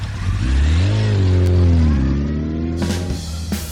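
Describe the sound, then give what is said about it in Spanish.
A motorcycle engine revs loudly, its pitch climbing and dipping through a couple of throttle surges before it pulls away with a raspy roar. No voices. “Pues ya se puede subir a la moto.”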